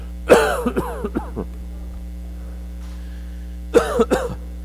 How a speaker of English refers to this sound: And I thought this might happen. I've been having a cough.